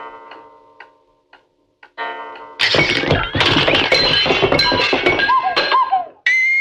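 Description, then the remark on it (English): A few sparse ticks of an eight-day clock sound over a low sustained tone, then a loud crashing clatter of smashing wood and jangling metal takes over, ending in springy twangs and a final thump. “Must have been an 8-day clock.”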